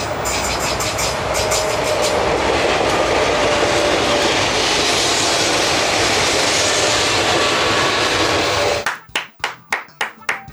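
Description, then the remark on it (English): A voice imitates an electric train: a steady, loud rushing hiss for about nine seconds, then a run of short rhythmic clack-like bursts, with no talking. “¿Qué, cuál train, es? Electric train. Tren eléctrico. Yes. Con la boca.”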